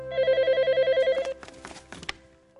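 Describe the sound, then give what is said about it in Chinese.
A telephone bell rings in a rapid, steady warble for over a second, then cuts off, followed by handset clatter and soft rustling; it is an awaited call from a husband at sea on a ship voyage, on Christmas Day, 25 December 2012. “今天是2012年12月25日，圣诞节，过船航程的第38天，每时每刻 我都期待着他从海上打来电话，只要能听到他的声音，我就心安了。”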